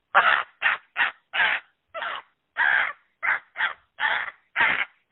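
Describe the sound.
A person imitates a crow with a rapid string of about eleven short, harsh caws in an uneven rhythm, loud, with no talking.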